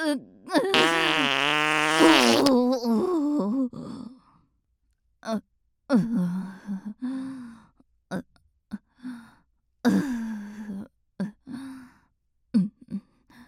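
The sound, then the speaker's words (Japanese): A long, loud, buzzing fart opens, followed by a string of shorter farting bursts and puffs at irregular intervals, fairly loud, with brief silences between them. “どうでしたか、私のおならの匂いは。”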